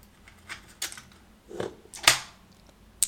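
dice rattling

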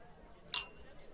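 glasses clinking

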